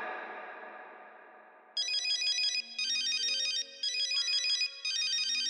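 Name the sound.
phone ringtone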